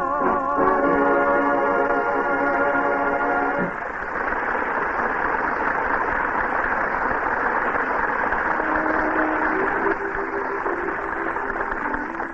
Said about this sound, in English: That powerful Spitfire engine in the new Chrysler is really music to the ears.